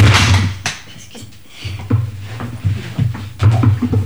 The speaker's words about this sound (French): Je tombe en bas de ma chaise. Bon, des choses qui arrivent.